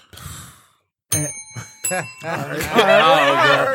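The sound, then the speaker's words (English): A small, bright bell rings twice in quick succession, each ding leaving a clear lingering tone, followed by loud overlapping laughter and voices. “I didn't have a bell. So appropriate.”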